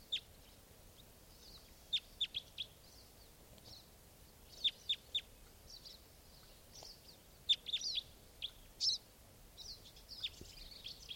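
A small flock of type 4 birds calling: sharp, high-pitched chip notes come in irregular bursts and clusters, some overlapping, over a quiet low hiss with no talking.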